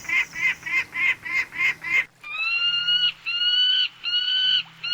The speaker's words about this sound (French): Puisque je l'ai pris en exemple juste avant, intéressons-nous de plus près à cette espèce mythique, l'oiseau fusée, le dieu Horus, l'oiseau des rois, le faucon pèlerin.